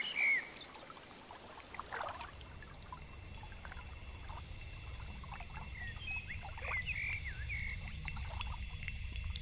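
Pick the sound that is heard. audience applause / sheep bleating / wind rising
wind rising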